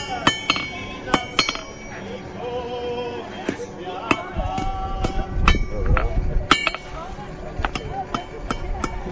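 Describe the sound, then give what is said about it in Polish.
A horseshoe being forged by hammering on an anvil, each one taking about ten minutes to make: a dozen or more sharp, ringing metallic strikes at an uneven pace, some louder than others, with a low rumble and faint voices underneath. “Długo, dużo czasu zajmowało zrobienie takiej podkowy?”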